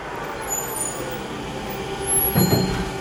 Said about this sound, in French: Et pour ouvrir le reportage d'Un jour dans le monde, écoutez donc ce petit bruissement doux à vos oreilles. Pourtant, nous sommes en pleine circulation.